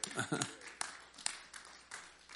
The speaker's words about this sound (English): And praise the Lord. You can clap for that.